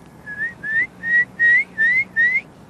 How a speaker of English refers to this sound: Here's a curlew.